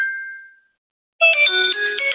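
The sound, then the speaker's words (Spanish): A mobile phone rings after being triggered remotely with a play-sound function for locating a lost device, a bright electronic melody of stacked tones, following a single fading beep and a brief silence; loud, no voices. “Entonces yo pulso en reproducir sonido y el móvil mío empezará a sonar.”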